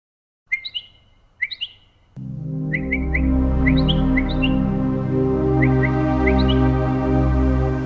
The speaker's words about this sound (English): During this film, we have been looking at birds that imitate sounds, one of the marvelous life forms created by Allah.